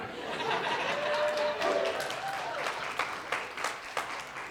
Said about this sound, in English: I expected applause.